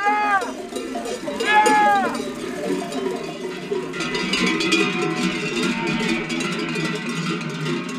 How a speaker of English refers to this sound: Bells tonk and clonk in complex harmonies and rhythms.